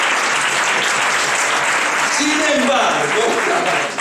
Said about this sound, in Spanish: Dar un aplauso a Dios.